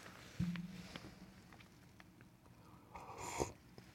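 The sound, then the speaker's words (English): A stiff, crunchy raincoat crinkles and rustles as the wearer shifts: a sharp crunch near the start, then a longer, louder swish of fabric toward the end. No one speaks. “If you hear some crunchiness, it's my crunchy raincoat that I've got on because it's the temperature is a bit low here.”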